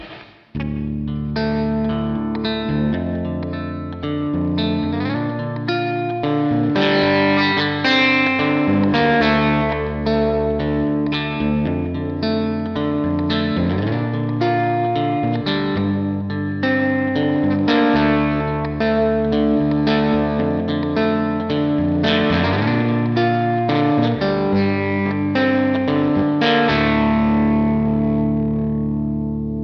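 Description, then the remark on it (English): An electric guitar with flatwound strings played through a Princeton amp model with spring reverb in Helix Native, picking steady chords and melodic lines for about thirty seconds. The tone is full and bright, and no one talks. “I geared this one up with, I think it was a Princeton on this one and a similar everything else.”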